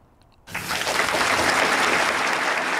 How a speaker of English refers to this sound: They do eventually clap.